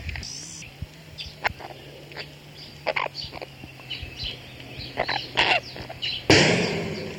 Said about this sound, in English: Take you out with me so hear what it's like outside where I live. Notice you don't hear too many cars, but you hear a lot of bugs and a lot of birds.